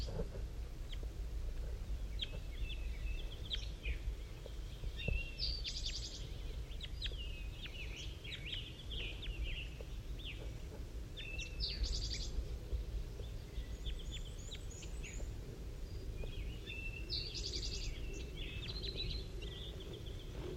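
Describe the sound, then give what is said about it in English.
Birds call softly back and forth, a bird called 5-3 and two wild ones, with short high chirps and buzzy notes coming in scattered bursts over a steady low rumble of background noise. No one speaks. “One of the wild birds is coming in now. I just saw it land in the pine tree. 5-3's calling to it.”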